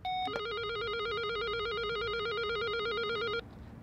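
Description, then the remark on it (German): An electronic doorbell at Polizei München (Munich police) rings with a steady, rapid warbling trill that alternates between two pitches for about three seconds, then cuts off abruptly, leaving faint background noise. “Und als erstes klingeln wir jetzt mal.”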